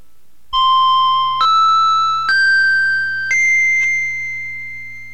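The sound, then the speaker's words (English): The opening chimes of a hypnosis session: a sequence of four bright chime tones rising step by step in pitch, each struck cleanly and ringing into the next, with the last one sustaining and slowly fading, heard alone over a faint low hum. “After you hear the opening chimes, you will enter into deep hypnosis within 30 seconds, or if you prefer, 60 seconds.”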